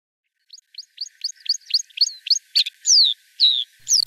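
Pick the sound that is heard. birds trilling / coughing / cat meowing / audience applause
birds trilling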